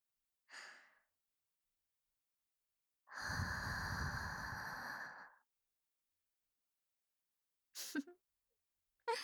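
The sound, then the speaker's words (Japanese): A high school girl blows warm breath into the ear: a short puff, then a long, full, breathy exhale lasting about two seconds, followed by two quick faint breaths at the end. No talking. “JK のあったかーい吐息を堪能してほしいな。”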